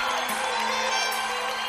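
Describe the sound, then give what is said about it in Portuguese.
A large crowd cheers and whoops together in a loud, continuous wall of voices, sustained without a break, with a steady low hum running underneath. “Quero ver o grito dos apaixonados aí.”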